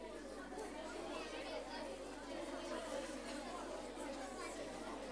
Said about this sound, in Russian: О, видишь, вы сразу загудели.